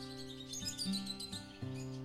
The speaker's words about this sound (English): Just take a brief moment in there. Just listen to sound of trees, leaves, and birds.